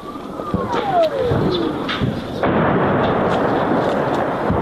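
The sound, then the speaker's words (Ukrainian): A Grad multiple rocket launcher fires in a sustained volley, a dense roaring rumble punctuated by sharp bursts, with a falling whistle early on and the barrage swelling louder halfway through. “Це їхні гради працювали.”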